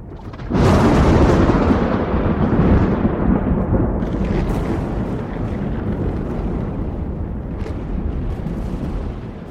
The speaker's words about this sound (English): And then there's this explosion somewhere on the horizon, this little weird, like, reverse lightning bolt, as if it went up into the sky.